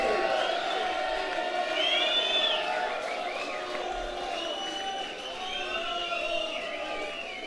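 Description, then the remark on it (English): A large concert audience cheers and shouts continuously for an encore, a dense roar of many voices with high whoops and yells rising above it, steady and loud throughout without a break. “It's really cool when you don't have to, like, ask for applause to come back on stage.”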